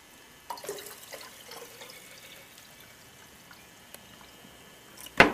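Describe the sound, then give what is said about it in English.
Water trickles and splashes into a container, starting around half a second in and continuing softly with a few drips, ending in a louder burst near the end. The water is distilled or reverse osmosis water. “and the water we're using, just so you know, is either a distilled water or reverse osmosis.”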